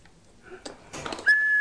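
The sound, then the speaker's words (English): Brief rustling and breathy puffs, then a whistle is blown, giving one loud, steady, shrill tone that holds to the end. No one speaks. “Is that your whistle?”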